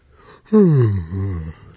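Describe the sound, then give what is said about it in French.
During a team guessing game, a person imitates a tired, sleepy frog with one drawn-out, croaky groan that sinks in pitch and trails off. It's fairly loud, lasting about a second, with no talking. “Oui, on va l'accorder, c'était une grenouille fatiguée, donc on accorde deux points à l'équipe.”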